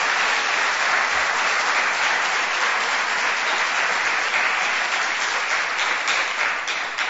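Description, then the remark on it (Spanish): Steady, dense applause from an audience fills the entire stretch, loud, with many hands clapping at once and no break or fade, as the audience applauds candidates standing in the elections. “pido un aplauso para ellos y muchísimas gracias por vuestra asistencia.”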